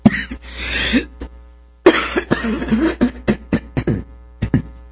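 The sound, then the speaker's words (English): A loud coughing fit: a long bout of harsh coughs, a brief pause, then a burst of shorter, sharp coughs and throat-clearing in quick succession, with no talking. “Excuse me for all that coughing.”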